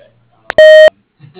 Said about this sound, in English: you may leave a message after the beep.